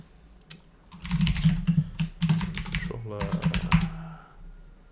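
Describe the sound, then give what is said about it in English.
Rapid clicking of keys on a computer keyboard in quick bursts with brief pauses, fairly loud, with a faint low hum underneath, as code is typed into a Home Controller constructor during a live coding demo. “Wait for my computer to catch up with my typing.”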